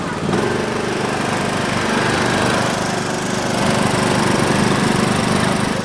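A loud, steady racing lawn mower engine roars, its droning rumble holding constant with a slight rise in intensity as the machine drives past, no voices present.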